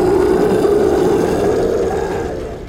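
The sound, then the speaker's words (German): A game master imitates a creature's roar that fills the whole room: a loud, sustained, gravelly growl lasting nearly three seconds that slowly fades toward the end. “Dann nehmt ihr eure Schadenspunkte und die Kreatur spuckt euch aus, als wärt ihr ein alter Kaugummi. Und brüllt den kompletten Raum voll mit einem”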